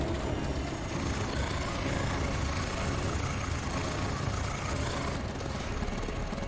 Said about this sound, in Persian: کف هواپیما رو زیر پات حس کن، صدای تکون خوردنش رو.